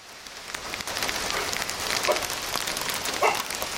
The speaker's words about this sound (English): It's pouring rain in this leafy and quiet neighborhood in Dhaka.